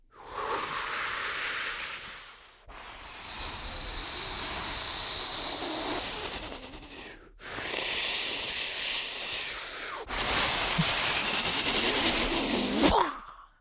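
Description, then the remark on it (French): A voice imitates a strong mistral wind, as wind in the branches for the yoga tree pose, with four long, breathy hissing blasts, each rising and falling, separated by brief pauses; the last gust is the loudest and harshest. “Comme le mistral. Tu connais le mistral? Je te montre.”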